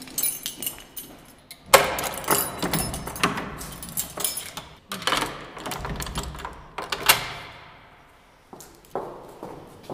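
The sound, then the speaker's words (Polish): A bunch of keys jangles and rattles in bursts of bright metallic clinks, irregular as they're shuffled through in search of the right key, in a corridor linking a meeting hall to a president's apartment, with brief pauses between flurries. “Szukamy odpowiednich kluczy.”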